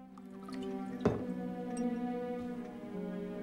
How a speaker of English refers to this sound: She reaches for a bottle of Absolute Vodka. She pours herself a large measure into a slim glass and puts it to her lips.